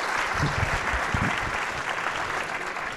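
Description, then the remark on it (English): A crowd claps steadily throughout, a dense, even wash of many hands applauding at moderate loudness, with faint low murmurs underneath. “So let's give your friend a big round of applause.”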